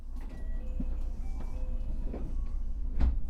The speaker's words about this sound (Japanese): ねえねえ、いつものとこだよ。降りなくていいの？ドア、もうすぐ閉まっちゃうよ。いいの？